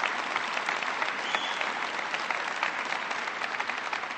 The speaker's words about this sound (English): First of all, your outstanding governor, Bill Ritter. Please give Bill a big round of applause.